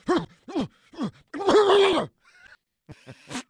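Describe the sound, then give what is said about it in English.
A man's voice, asked to impersonate a dog, imitates one: three short, falling barks, then a longer strained, groaning howl, a brief pause, and a few more clipped yelps at the end. “got asked to impersonate a dog, and this happened.”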